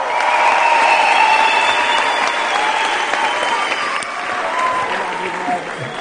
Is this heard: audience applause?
yes